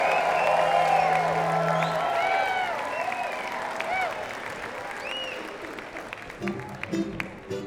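A large audience applauds and cheers loudly, with whoops and whistles rising over dense, sustained clapping that gradually thins toward the end.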